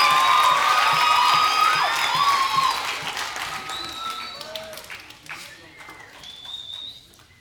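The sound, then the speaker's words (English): An audience bursts into loud applause mixed with whoops and high whistles, strongest for the first few seconds before the clapping thins out and fades away. “Now that you can clap for.”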